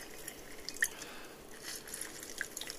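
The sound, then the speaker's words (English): A lime half is squeezed over a glass, giving quiet wet squishing and a scatter of small juice drips, with two brighter plinks against a soft steady hiss. “And I'm going to take 1/2 of it and squeeze that into the glass.”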